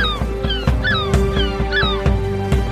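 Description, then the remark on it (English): A bird squawks repeatedly in short, harsh, downward-sliding cries, fairly loud, over a steady low hum and sharp clicking sounds, with no one talking. “Give me my other shoe back! No, you bird.”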